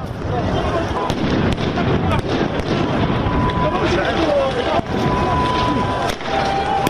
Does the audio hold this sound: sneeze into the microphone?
no